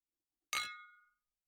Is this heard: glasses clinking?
yes